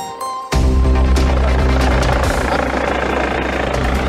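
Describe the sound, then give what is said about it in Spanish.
A Carabineros police helicopter carrying an officer shot in the commune of Recoleta arrives and sets down on a heliport; its loud rotor and engine roar kicks in suddenly and holds steady with a deep throbbing drone. “Efectivamente, ustedes están viendo cómo a esta hora viene llegando el helicóptero de Carabineros, que se está posando con el funcionario baleado en la comuna de Recoleta, y en este momento el helicóptero se está posando en el helipuerto”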